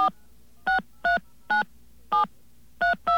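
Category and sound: signal or alarm, touch-tone telephone dialing tones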